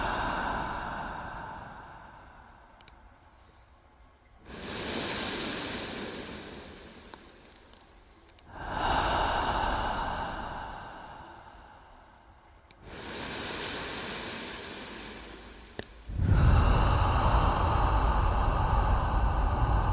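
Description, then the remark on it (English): Slow, audible breathing, with four or five breathy inhales and exhales rising and falling in a steady rhythm of roughly four seconds each. No one speaks. “Gradually allow your breathing to become audible.”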